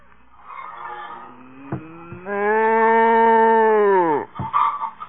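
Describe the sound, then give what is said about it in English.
A single loud, drawn-out cow moo lasting about two seconds, its pitch sagging at the end, set against faint shuffling and background noise in a barn on a work farm. “Stand still, cow, will you?”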